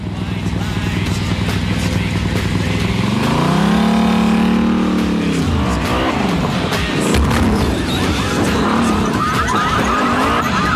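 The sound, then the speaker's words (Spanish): A loud motorcycle engine revs and whines up and down in pitch, with tires screeching and a sharp metallic thump partway through as a female rider drives the bike over parked cars outside. “Fuera, la motorista pasa sobre los coches aparcados.”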